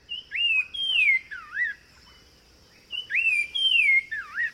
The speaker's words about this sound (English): But listen to the Nava's wren sing.